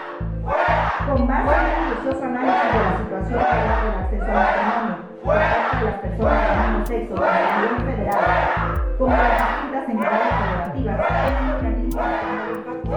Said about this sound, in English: When Miriam Cano read the bill, she got booed and heckled by the opposition. And she was constantly interrupted.